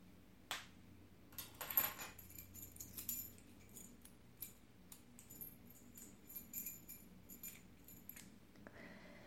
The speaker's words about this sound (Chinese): 然后把钥匙交到本主手里。快点儿！